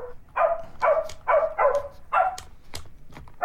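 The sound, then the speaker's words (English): A circuit-bent Baby Einstein toy piano spits out a run of glitchy, electronic dog barks, about six quick, loud yaps in an uneven rhythm, each one clipped and synthetic. “And he's circuit bent a kid's toy, a baby Einstein piano.”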